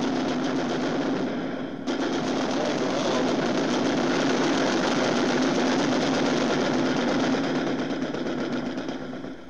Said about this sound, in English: would sound more like a sniper shot, the ones we've just heard. They're firing bullet bullets.